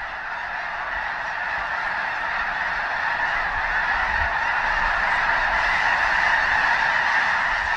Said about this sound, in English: See the snow geese before they return in spring to their breeding grounds high in the Arctic tundra.